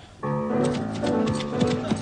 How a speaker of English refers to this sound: Dennis Moore, galloping through the sward. Dennis Moore, and his horse Concord.